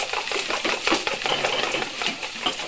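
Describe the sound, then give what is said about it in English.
Busy kitchen clatter of pots and pans as a mother cooks, with quick metallic clinks, scraping and stirring sounds repeating steadily, no voices. “This is how my mother cooks.”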